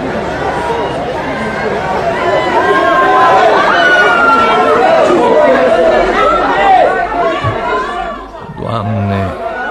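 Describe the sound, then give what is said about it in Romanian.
A dense crowd murmurs and chatters, many overlapping voices forming a steady babble that swells slightly in the middle, with a few louder individual voices breaking through near the end; the crowd surrounds someone and their children. “Doamne Dumnezeule, ce vrea mulțimea asta de oameni care mă înconjoară pe mine și pe copiii mei?”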